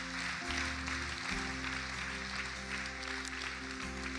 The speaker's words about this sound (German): Gib mal einen fetten Applaus für alle, die einfach gerade jetzt diesen wunderbaren Schritt getan haben.